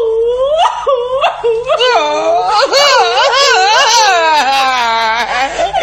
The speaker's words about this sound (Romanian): Ce-i fi plângând atâta, vreau să știu? Da. Nu plânge! Nu se poate! Nu pot să mă opresc!